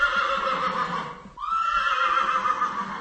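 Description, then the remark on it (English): A Kladruber horse whinnies loudly in a stable for young horses in training, a long quavering call that breaks off briefly midway, then rises and carries on to the end. No one speaks. “For example, this stable we are here just now, it's for young horses in training.”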